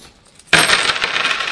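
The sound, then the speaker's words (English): A handful of coins spills onto a table after a brief silence, a sudden bright clatter that settles into a metallic jingling rattle, with no voices. “Count how many coins there are in this table.”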